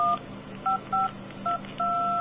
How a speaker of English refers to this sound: So there you go. You got yourself a tone dialer off of your damn phone. How many people are going to sit there and listen to those tones and see if you just spelled out a secret word or something